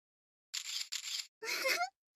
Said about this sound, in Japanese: びっくりしました？ご主人様ってば、シャッターの音でビクビクってしてましたよ。